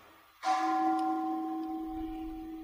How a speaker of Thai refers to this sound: ลองฟังระฆังที่ใจชอบหรือใจไม่ชอบรู้เล่นๆอย่าไปจ้องอย่าไปรอดู